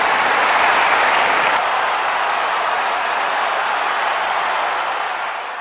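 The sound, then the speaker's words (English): A large audience applauds a line of a State of the Union speech about COVID, a dense, continuous wash of clapping that stays loud and steady for several seconds before tapering slightly at the end. No one speaks. “Clap for that, you stupid bastard.”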